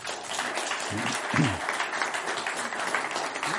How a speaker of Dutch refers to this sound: maar dit is de klankbordgroep. Even jullie applaus voor ze.